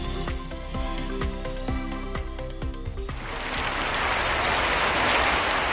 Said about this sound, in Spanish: El sonido de la lluvia es el que desean escuchar muchos agricultores de la región de Murcia.